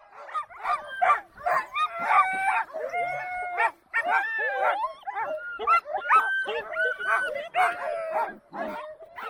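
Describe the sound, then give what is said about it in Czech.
A chorus of many sled dogs of a dog-sled team barking, yipping and howling at once just before the team sets off, loud and continuous, with excited overlapping voices and no pauses, the dogs impatient while waiting. “Psi jsou velmi nedočkaví a tak když mají čekat, tak jsou velmi hluční.”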